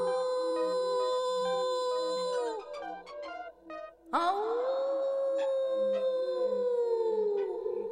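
Two long, drawn-out shouted calls of "Au!" ring out loudly, each held and wavering in pitch almost like a howl, with a short broken pause between them, answered by an echo.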